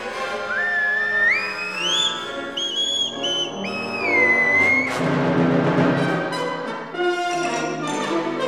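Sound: whistling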